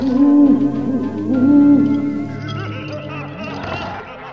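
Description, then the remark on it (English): Loud, drawn-out owl hoots, low and tonal, sliding slightly in pitch, repeated over a dense, busy background of other layered sound. “Owls.”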